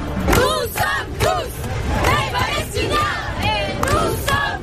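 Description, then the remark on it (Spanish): A pro-Palestinian protest crowd at the Place de la République in Paris chants slogans such as 'we are all Palestinians', 'free Palestine' and 'Israel murderer' in loud, rhythmic bursts of many voices shouting together, with dense crowd noise filling the gaps between each chanted phrase. “Oímos gritos de somos todos palestinos, Palestina libre o Israel asesina, con organizaciones sociales, pero también partidos políticos como la Francia Insumisa y sindicatos.”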